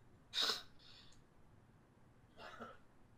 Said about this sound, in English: I'm sorry. I had to sneeze, and I'm going to have to sneeze again.